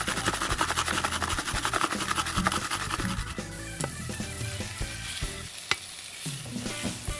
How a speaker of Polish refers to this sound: Kurczaka dorzucamy do lekko podsmażonych warzyw i podkręcamy ogień.